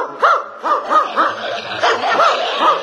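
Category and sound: animal, dog barking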